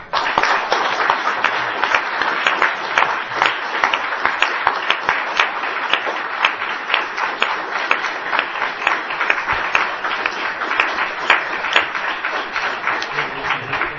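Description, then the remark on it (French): Sustained applause from a large audience after a speech fills the whole stretch, a dense steady patter of many hands clapping at even loudness, with no voices breaking through. “La chaleur des applaudissements me dispense de vous complimenter.”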